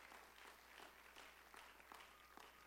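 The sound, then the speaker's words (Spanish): An audience at a Spanish-language church service applauds for the Lord with steady, dense clapping from many hands, sustained throughout at moderate loudness with a few sharper individual claps standing out. “Alguien le da un aplauso al Señor.”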